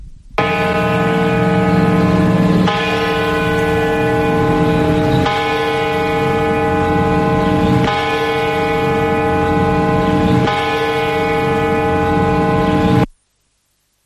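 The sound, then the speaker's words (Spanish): Solemn mourning bell tolls played on the radio sports program Deportes COPE in memory of the dead: five loud, deep strikes about two and a half seconds apart, each ringing out with rich, sustained overtones that overlap before the sound cuts off. “Vaya por ellos, por todos ellos, estas campanadas de silencio de luto.”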